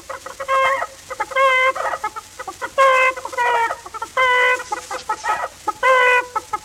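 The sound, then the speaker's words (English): Several chickens cackle in quick, repeated bursts, overlapping in a lively chorus of clucking calls with brief gaps between them. “And the chickens to cackle.”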